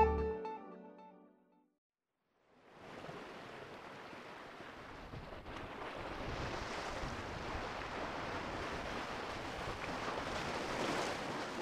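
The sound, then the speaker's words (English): Ocean waves crash against black volcanic rocks on the north coast of Jeju Island in a continuous, roaring wash of surf, loud, with gusting wind adding noise on a windy day with rain off and on; a brief musical tone and a moment of silence come before the waves. “Waves crash up against the black volcanic rocks that line this stretch of Jeju Island's north coast.”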